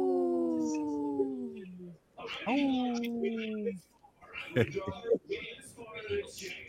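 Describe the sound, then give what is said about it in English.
Two long, drawn-out wolf howls, each sliding slightly downward in pitch, loud, followed by a stretch of busy voices talking: speeches from a TV in the background, with Stephen Miller yelling at Ari Melber. “This portion of the show is supported by Howling for Wolves, protecting wolves for future generations.”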